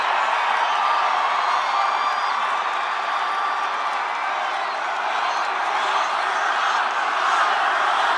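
A large crowd of Trump supporters shouts the chant "Lock her up" together, a dense, steady roar of many voices that holds at a constant loudness for about eight seconds, with scattered cheers mixed in.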